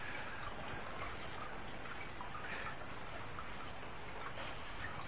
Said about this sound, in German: Merkt ihr das, so ein erleichternder Regenschauer, wie, was für eine schöne Atmosphäre. Wir haben eine Sommeratmosphäre, jetzt haben wir eine Monsunatmosphäre.